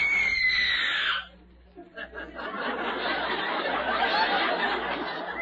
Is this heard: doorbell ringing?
no